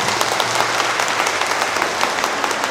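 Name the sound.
applause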